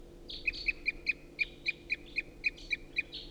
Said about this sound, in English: And there's still a lot of crossbill activity in the trees right above. Nothing's coming down or getting interested in the decoys, however. A lot of song, continuing loud toops by a wild bird.